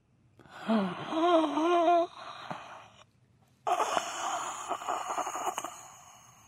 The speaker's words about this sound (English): I thought you told me heavy breathing. I didn't know we're doing the line. Pervy breathing. I thought you guys wanted breathing for the background. So I'm literally giving you the sound effect.